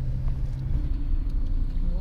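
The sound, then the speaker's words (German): A car engine hums low and steady, its pitch climbing slightly near the end as the vehicle pulls away and picks up speed. “Schön, wenn man ein Auto hat, nicht?”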